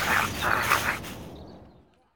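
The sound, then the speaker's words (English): A dog gives a quick run of short, sharp barks mixed with whining whimpers, fairly loud, before the sound trails off into quiet, while its owners are shopping at a market. “I can't see any dog food in there. What are you doing, Mutt? Stop it!”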